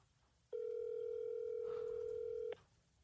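A single two-second burst of phone ringback tone, a steady electronic hum heard over a speakerphone, starting abruptly and cutting off cleanly against a quiet, faintly noisy background.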